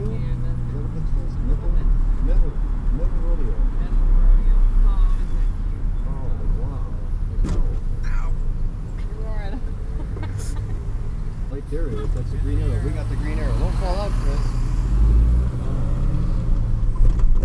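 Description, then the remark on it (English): Steady low road rumble of cars and trucks going by, heard from the back seat of a moving car through an open window, loud and continuous, with two people in the front seat talking indistinctly over it. “His window is open for the better sounds of cars and trucks passing by.”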